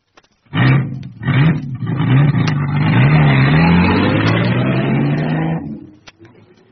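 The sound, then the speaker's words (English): A car engine starts, revs with a rising and falling pitch, then pulls away steadily for several seconds before the sound cuts off into near silence. No voices. “Get along to the car.”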